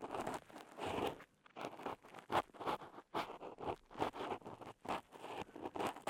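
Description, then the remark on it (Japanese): Dry crackling and scratchy crunching in quick irregular bursts as earwax that has come out toward the entrance of an ear is scraped, continuing steadily with no talking. “ほら、わかりますか？このポリポリとした音。”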